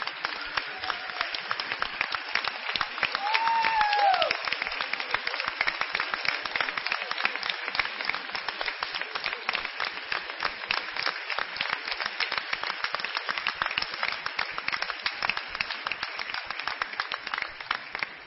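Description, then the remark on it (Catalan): At the FICAT event, a crowd applauds steadily for about eighteen seconds for the Pàtria team members who are not on the stage. A dense, even patter of many hands clapping, with a brief rising whistle or cheer early on. “Així que també un fort aplaudiment per tot l'equip que no està aquí dalt l'escenari.”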